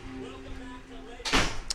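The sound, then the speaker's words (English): A door opens with a brief, fairly loud rushing scrape, followed by a quick sharp click, over a steady low hum in the room. “There's the door.”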